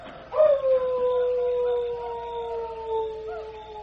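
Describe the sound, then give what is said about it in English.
A single long wolf-call howl, given in answer by a Cheyenne chief, rises briefly, then holds a steady, slowly falling tone for several seconds, carrying clearly over faint background noise with no one talking. “He heard you and answered.”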